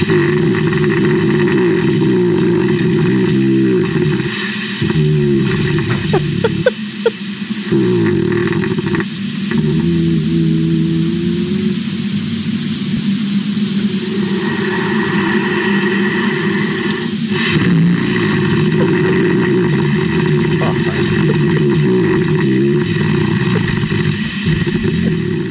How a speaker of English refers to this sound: It's bears hibernating. See if you have a relative that maybe snores the same way these bears do. These are legitimate bears hibernating and under somebody's house.